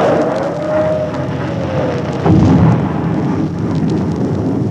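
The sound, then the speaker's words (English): Eruption of a new volcano blowing up the sacred city, throwing tons of rock and dirt into the air: a continuous deep, roaring rumble with a heavier explosive blast about halfway through, then the loud rumbling carries on. No voices. “The sacred city's gone. It's blown up.”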